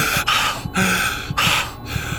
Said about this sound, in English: You always feel at this point like you're going to give some speech that explains everything perfectly, and then you wake up just breathing really heavily.